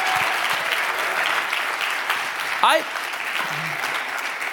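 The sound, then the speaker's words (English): Steady, dense applause from a church audience giving God a round of applause fills the whole stretch, a continuous crackle of many hands clapping, with a brief vocal whoop rising over it near the end. “So if you wouldn't mind, let's just give God a round of applause for reaching this next generation.”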